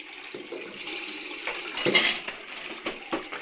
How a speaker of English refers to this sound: Do the washing up.